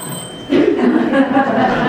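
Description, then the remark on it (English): An alarm clock starts ringing about halfway in, a loud, continuous metallic jangle with bright ringing tones that carries on steadily to the end. “It's a clock, isn't it? Yes, and when I have the hour to make sure that I get somewhere on time, I set the alarm.”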